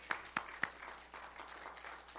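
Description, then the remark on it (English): An audience at a morning church service applauds to welcome the preacher: three sharp claps stand out at the start, then many hands clap together in a steady, fairly soft patter with no voices over it. “Round of applause this morning.”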